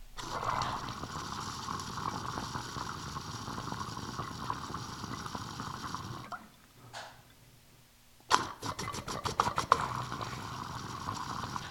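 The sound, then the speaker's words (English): Continuous water bubbling and gurgling inside a glass recycler rig, a dense churning rush that stops for about two seconds before resuming with sharp, rapid bursts of bubbles. “I like to rev them, you know, rev up the rig, like shred the water to pieces, make even more tiny bubbles.”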